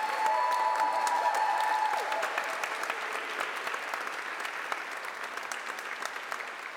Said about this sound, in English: can you give him another round of applause for that wonderful message?